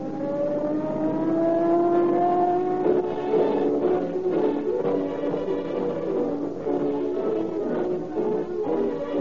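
Car engines roar and rev loudly, with a rising, sustained whine at first that breaks into rougher, pulsing bursts of engine noise. No one speaks.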